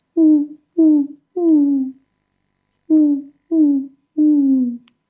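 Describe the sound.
A person imitates an owl's hoot with their voice, two sequences of three close, breathy hoots, the last in each a little longer, separated by a short pause.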